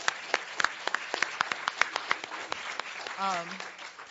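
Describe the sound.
Audience applause at an activist encampment, for the campers who held it for two months: steady, uneven claps, sharp and crisp, carrying on for several seconds before a voice briefly rises over the clapping near the end.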